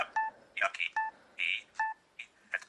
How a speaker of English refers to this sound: And you heard a double beep. This double beep means that you're back at the default.